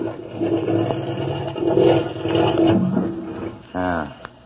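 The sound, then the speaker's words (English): A rough, rumbling marine engine roars unevenly for several seconds, then gives a short, sharp rev with climbing pitch near the end before a brief click. “Know anything about marine engines?”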